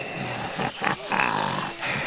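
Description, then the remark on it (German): A wolf's low, rough growl rumbles continuously for about two seconds, swelling in a few harsh bursts, fairly loud with no voices. “Wie nun Rotkäppchen in den Wald kam, begegnete ihm dort der Wolf.”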